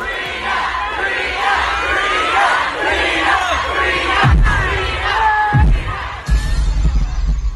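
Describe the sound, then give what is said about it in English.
A large crowd at a show in Atlanta cheers and shouts loudly and continuously, trying to lift up the performer on stage, with voices rising and falling in a dense roar, punctuated by a few deep low thumps toward the end. “I think we got a little bit of the crowd trying to lift her up.”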